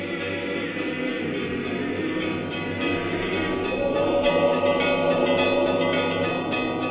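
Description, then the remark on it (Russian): Several church bells of the Moscow Kremlin peal together in a steady, overlapping rhythm, their strikes ringing out loud and resonant with long humming tails, continuous throughout and with no voices. “Гудят из Кремля колокола.”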